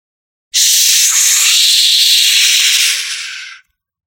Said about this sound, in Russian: Зашипела система, неприученная к тому, чтобы по ней колотили инопланетные археологи.